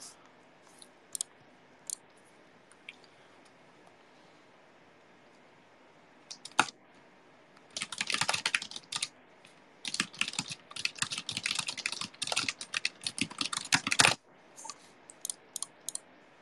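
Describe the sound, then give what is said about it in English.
Fast typing on a computer keyboard, starting with a few scattered key taps and then breaking into a dense, rapid burst of clicking keystrokes for several seconds before slowing to isolated taps. No voices. “I think my raw typing speed is 131 words per minute, but with the accuracy it goes down to 116.”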